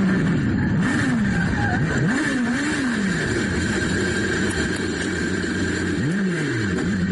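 Alex Palou's Super Formula race car engine revs repeatedly during testing at Fuji, Japan, its pitch sweeping up and down through gear changes as it roars past, loud and continuous over steady mechanical noise.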